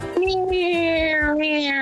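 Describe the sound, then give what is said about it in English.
A quiz contestant, asked to make a helicopter noise, imitates a helicopter with a loud, steady, buzzing vocal hum that slowly sinks in pitch, while a low, rhythmic chopping thump pulses beneath it for about two seconds. “Make a helicopter noise.”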